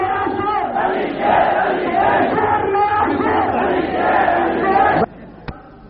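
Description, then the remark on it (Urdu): A large crowd chants the takbir slogan "Nara-e-Takbir" in unison, loud and sustained with rhythmic swells for about five seconds, then cuts off abruptly, leaving a brief quiet with one short knock. “نعرہ تکبیر”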